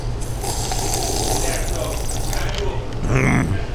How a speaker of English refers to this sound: I think I'll have a sip of my Pepsi.